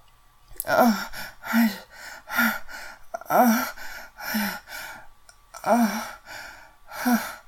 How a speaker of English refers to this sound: I love the way you're breathing hitched towards the end there, honey.